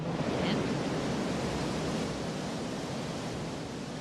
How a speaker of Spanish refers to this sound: Oigo agua, sí. ¿No? Sonido de agua. Agua del río Guadalix, del río en un momento determinado, pasando por el municipio en el que hay un gran salto de nivel, y ese salto de nivel en el cauce provoca el charco del Hervidero.